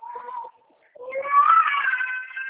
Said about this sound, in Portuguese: A minha netinha tá chorando.